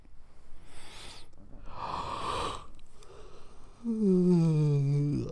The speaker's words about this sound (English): Stop yawning, baby.